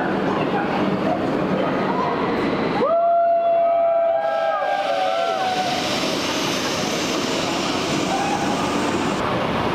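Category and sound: vehicle, train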